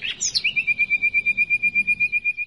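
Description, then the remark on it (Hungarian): A common nightingale, a small member of the thrush family, sings, opening with a few sweeping whistled notes before launching into a fast, steady run of identical sharp pulses, clear with no voices. “A fülemüle ez egy rigóféle, tehát egy apró termetű rigóféle lényegében.”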